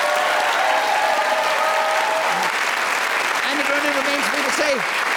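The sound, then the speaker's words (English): A crowd applauds steadily in a dense, even wash of clapping, with a few faint voices and whoops rising over it near the end, applauding Paul Merton as the winner of a panel game. “A round of applause for Paul Merton.”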